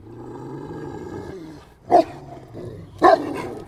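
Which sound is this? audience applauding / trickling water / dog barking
dog barking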